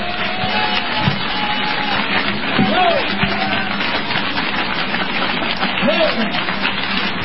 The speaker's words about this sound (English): I think we ought to clap our hands and pray.